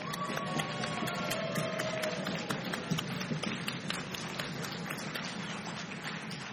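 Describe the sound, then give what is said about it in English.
A large audience at a service claps and stomps their feet together on cue, producing a dense, continuous roar of hand claps over a heavy low thudding of feet that lasts throughout, loud. “So I need you to clap and stomp your feet.”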